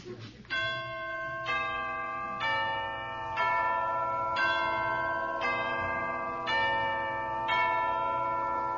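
Deep bells toll in a slow, steady procession, about one stroke per second, each ringing on over a low, sustained orchestral backdrop at moderate volume, in the Entrance of the Knights of the Grail from Wagner's Parsifal.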